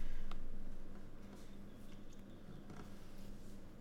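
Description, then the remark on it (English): Faint pencil scratching on paper during a reading, the writer switching between brown and black pencils: a few short, dry strokes and light ticks spread irregularly over a low steady hum, with no voices. “I keep changing pencils. Something I have not done during any other reading.”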